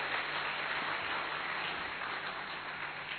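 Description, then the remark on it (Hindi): Sustained applause from a crowd, a dense, steady wash of many hands clapping at once, evenly loud throughout with no voices standing out. “एक बार ताली बजाओ।”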